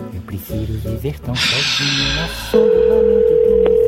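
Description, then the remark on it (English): A steady electronic ringing tone of an outgoing phone call to a mother begins partway through and holds loud and unbroken to the end, preceded by muffled voices and a burst of hissy noise. “Oh my gosh, mom, answer the phone.”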